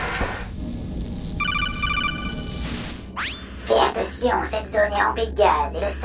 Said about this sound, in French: Bah, je vais rester sur la sonnerie de base, hein.